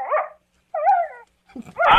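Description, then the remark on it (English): A dog barks three times in a row, each bark short and loud, with a high, slightly whiny tone and brief pauses between them. No one speaks. “Leave that dog alone.”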